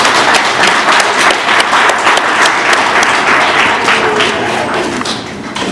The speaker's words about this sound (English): Thank you, Wally. Thank you. Let's give it up to Wally again, y'all.